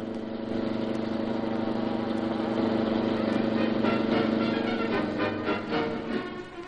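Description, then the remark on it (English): A car engine roars steadily and builds in intensity, a dense, loud mid-pitched drone with a rising rev, then eases off slightly at the end. “The cops are going after that car.”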